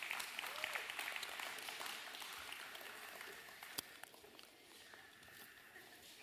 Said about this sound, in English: Y'all come give a big round of applause today.